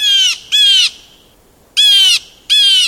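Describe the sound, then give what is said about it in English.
Four loud, harsh calls of a Steller's jay arrive in two pairs, each a rasping, buzzy squawk of under half a second, prominent with quiet gaps between. It sounds like a raucous jay call. “These jays have similar personalities. Both are raucous and have a bit of a reputation for being bad boys.”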